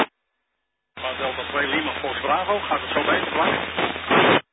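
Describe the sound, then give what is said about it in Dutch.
A distant radio station comes through static, a thin, tinny voice barely rising above a steady wash of hiss for a few seconds before cutting off abruptly. “er zat iemand die zat wat in de ruis ver weg, probeer het nog eens, speer die BC, ik luister.”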